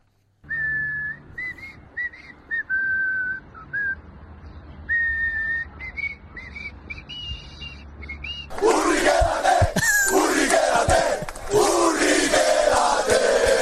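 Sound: football fans chanting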